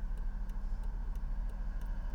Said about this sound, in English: And wind noise from having the windows down.